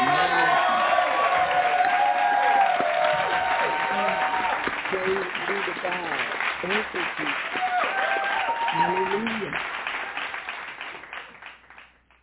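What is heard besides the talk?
audience hand clap applause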